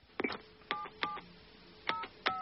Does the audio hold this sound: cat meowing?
no